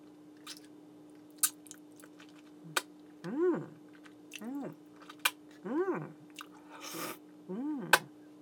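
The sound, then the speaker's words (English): Wet licking and sucking on fingers to clean them off: scattered sharp smacking clicks, with four brief hummed vocal sounds that rise and fall in between, over a faint steady hum. “Oh, you didn't know that I lick my own fingers after I come?”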